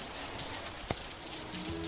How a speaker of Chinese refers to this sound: 今天怎么又下雨啦？